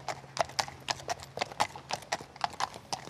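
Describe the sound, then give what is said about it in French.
A mare's hooves clip-clop in a steady, brisk rhythm during a light afternoon warm-up at the Le Touquet international show jumping competition, each hoofbeat a sharp knock repeating several times a second with no other sound competing. “Donc là, je lui fais une petite détente, elle a fait un travail ce matin et elle refait une petite sortie l'après-midi, tranquille.”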